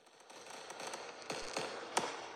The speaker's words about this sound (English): Yes, I think I hear the fireworks and see them lighting up the sky. It's our country's birthday.